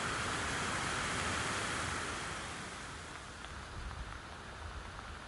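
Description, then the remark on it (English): A steady, dense hiss of a light drizzle shower falling outdoors on a hillside above Howsteen Gorge, on the way towards Steen, continuous throughout, with low gusty rumbles underneath and a slight easing after the first couple of seconds. No one speaks. “Just as we've crested the top of Howsteen Gorge, we met with another drizzle shower passing through, driving into our faces as we clamber back up the hill towards Steen.”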